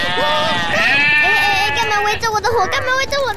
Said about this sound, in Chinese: 哎呦，虎喵啊，你这个绵羊啊，哦哟哟，又塞满了整个露营区了啦，怎么这么多啦？